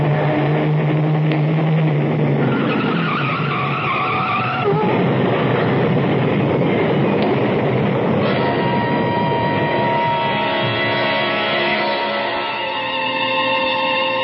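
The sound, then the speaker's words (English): A loud sound effect of a truck approaching and crashing: a heavy engine roars steadily while tires screech and squeal over it, the dense noise churning and shifting midway, with no voices. “Look out, Sam. A truck. Turn the wheel. Go off the road.”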